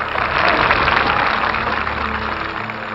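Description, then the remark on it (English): A crowd applauds in approval of a line in a speech, a dense, steady wash of many hands clapping at once that holds fairly loud throughout without any voices, easing off only slightly toward the end. “The crowd reacted for the first time at this line, clapping its approval.”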